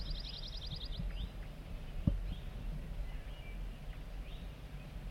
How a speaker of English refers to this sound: We're getting zert zert song from bird 4-3. Very soft.